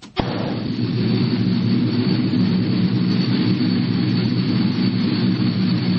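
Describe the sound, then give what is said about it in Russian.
A propeller airplane carrying German football players arrives for a match against the USSR team, its engines roaring steadily and loudly after an abrupt start, a deep, rumbling drone holding at constant strength throughout, with no voices. “Это прилетает самолет с немецкими спортсменами, а не бомбардировщик какой-нибудь.”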